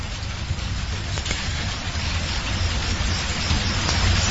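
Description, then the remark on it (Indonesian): Steady rain falls throughout, a dense, even hiss with a low rumble underneath, growing slightly louder toward the end. No voices are heard. “Sampai ketika hujan sudah reda”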